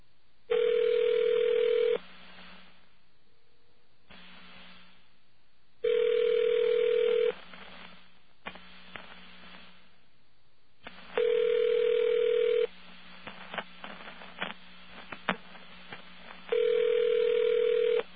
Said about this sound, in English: Technically, that should count against them, the busy signal.